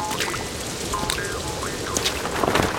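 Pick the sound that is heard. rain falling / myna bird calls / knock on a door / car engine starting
rain falling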